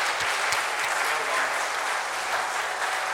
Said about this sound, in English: So thank you very much. Do you know what? Let's give them another round of applause there. All right. Thank you.